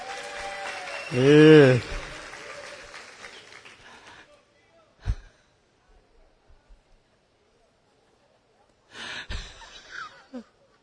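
A burst of audience applause, dense and crackling, with a rising-and-falling vocal whoop over it, then fading out over a few seconds. A single sharp knock follows, and a short rustle of sound near the end.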